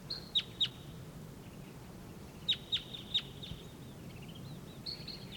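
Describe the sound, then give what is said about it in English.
A wild bird up in a treetop calls in sharp, high-pitched chips, first a pair, then a quick run of three, ending with a brief thin trill, all over a soft, steady low rumble. “There's another wild bird up in the treetop.”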